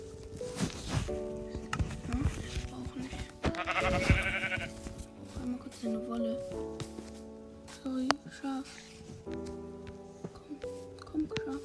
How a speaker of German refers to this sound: Ein Schaf, let's go.